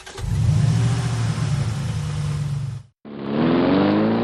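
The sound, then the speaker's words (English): A big truck engine rumbles and revs loudly for a few seconds, cuts out briefly, then revs again with a rising, higher-pitched roar. No one speaks. “Maybe some do, but I think most people just think they look cool driving a huge truck.”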